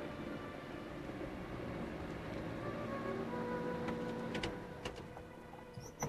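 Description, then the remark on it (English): A car engine rumbles steadily as the vehicle rolls up and comes to a stop, with a few sharp clicks and squeaks near the end and no voices. “A car pulls up behind Sandra.”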